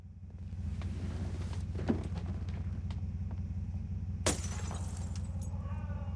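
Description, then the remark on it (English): A woman throws a large stone at a glass panel in her door, smashing it: a sharp, loud crash followed by tinkling shards, preceded by a smaller knock, all over a steady low engine-like rumble. “She picks up a large stone and throws it at a glass panel in her door.”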